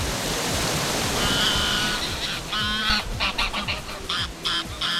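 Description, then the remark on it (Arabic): Steady rushing of the Wazzani River fills the background at a riverbank on the border of Lebanon, occupied Palestine and the occupied Golan, while geese or ducks honk repeatedly over it, growing busier toward the end. No one speaks. “نحن على ضفة نهر الوزاني على حدود لبنان فلسطين المحتلة والجولان المحتل.”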